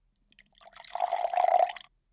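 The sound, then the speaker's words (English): Water pours into a glass for just over a second, a splashy trickle with a resonant ringing tone, starting with a few drips and cutting off abruptly. No voices. “Here, let's get you some water.”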